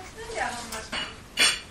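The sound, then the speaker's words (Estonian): Food being dished into a bowl, with several bright clinks of utensils against dishes; the loudest comes last, over faint shuffling. “Kuule, ma tõstan mille süüa.”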